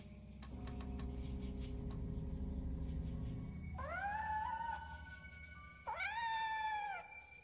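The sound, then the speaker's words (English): A black kitten meows twice in a barn, two drawn-out, high, clear cries, following a few soft clicks and faint rustling. No one speaks. “Kitten, I hear you, but I don't see you.”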